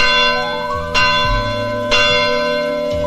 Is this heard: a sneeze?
no